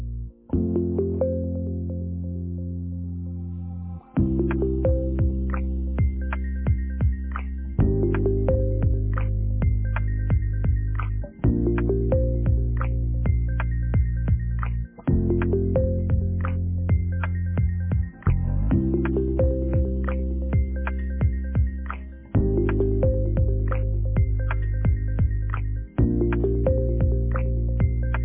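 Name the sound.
phone call ringback tone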